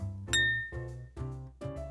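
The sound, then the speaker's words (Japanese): Glasses clink together in a toast over a restaurant meal, four bright ringing strikes at a steady pace, each one lingering briefly before the next, moderately loud with no voices. “じゃあ乾杯。お疲れ様。”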